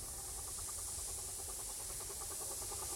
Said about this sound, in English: And with the release of steam, the train goes on. Wow, that sounds cool.